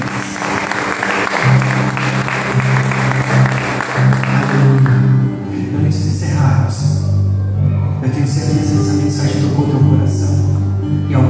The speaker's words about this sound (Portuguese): Quem crê pode aplaudir o Senhor.